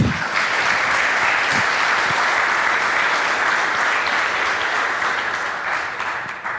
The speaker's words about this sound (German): Vielen Dank für den Vortrag. Ich würde erstmal einen Applaus geben lassen.